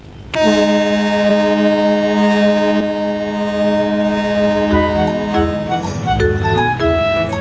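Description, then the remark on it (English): A loud, deep ferry boat horn, blown by Caillou as the boat nears the shore, blasts in one long sustained tone, rich with harmonics, then wavers and fades out near the end, with low engine and water rumble underneath. “And when they got close to the shore, he even let Caillou blow the horn.”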